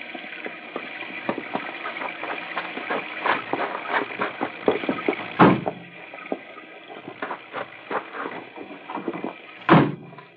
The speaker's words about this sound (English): I'll open the car doors. Come on!